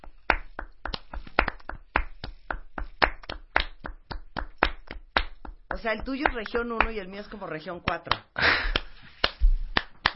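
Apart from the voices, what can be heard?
hand clapping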